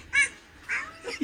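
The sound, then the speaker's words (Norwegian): A few short, nasal cat meows from a funny cat sound effect, three quick calls in a row with brief pauses between, moderately loud, with no talking. “Ok, hvis jeg går på funny cat da.”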